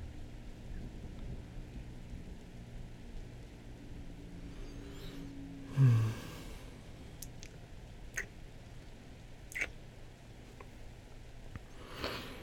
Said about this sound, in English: The thunder's gotten better. As I say that. I was gonna say, it was like, it's lightening up a little bit. It sounds like it's moving away from us. Yeah. Hopefully this is the worst of it, baby. Yeah, it's just like a, it's just a thunderstorm.